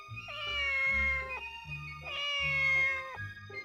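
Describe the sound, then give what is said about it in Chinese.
A cat lets out two long, drawn-out yowls one after the other, loud, each wavering and strained like a cry of distress after a mouse bites it hard on the back, with no voices around. “它使足了劲儿，在猫背上狠狠地咬了一口，疼得猫张口大叫。”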